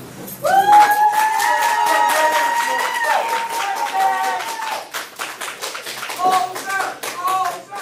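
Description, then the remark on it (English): A courtroom crowd erupts in loud cheers and jeers as the judge concludes a hearing and the defendant is taken out, with sustained shouting voices over a dense burst of clapping that runs for several seconds, then tapers into scattered yells and applause. “I mean, you can hear the cheers and jeers in the courtroom, almost like this physical release for the victims' families who've just been waiting so long for justice.”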